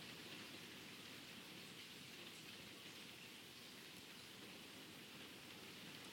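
Steady rain falling continuously, a dense, even hiss of drops pattering on a surface with no pauses or changes in intensity, no voices present.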